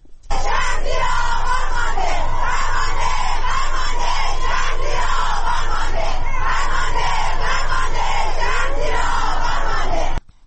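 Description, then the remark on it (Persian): A large crowd of protesters in Iran chants slogans in unison in solidarity with victims of the Metropol building collapse, many voices shouting loudly and steadily for about ten seconds in a dense, rhythmic roar with no other sounds standing out. “کاربران شبکه‌های اجتماعی در ایران در ساعت‌های اخیر به رغم دشواری‌های فراوان در اینترنت، ویدیوهایی را از اعتراض‌ها و شعارهای سرداده شده از سوی معترضان انتشار دادند.”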